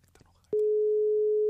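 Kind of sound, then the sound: signal or alarm, telephone ringing tone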